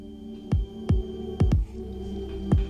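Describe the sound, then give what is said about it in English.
A personal heartbeat shared through a small messaging device plays as deep, muffled thumps over a steady low hum, about five beats with a quick double thump in the middle. No one speaks. “You can send a quick sketch, or you can even share something as personal as your own heartbeat.”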